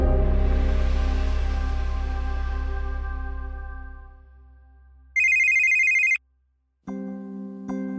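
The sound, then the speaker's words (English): A deep, sustained musical tone fades out, then a telephone rings loudly in a sharp one-second electronic burst, followed by more ringing tones. No one speaks. “No one likes the sound of a ringing phone in the middle of the night.”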